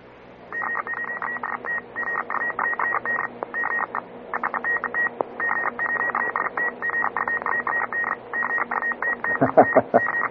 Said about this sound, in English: I'll let you hear some very fast Morse code so you can hear what it sounds like on the international level.